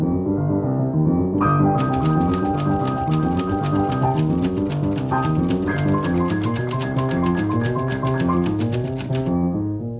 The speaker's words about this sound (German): Schreibmaschine und Klavier.